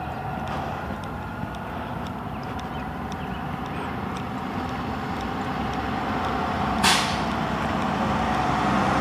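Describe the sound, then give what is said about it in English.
A heavy school bus engine rumbles steadily throughout, with one sharp hiss of air brakes releasing near the end. No one speaks. “Ooh, here comes a school bus.”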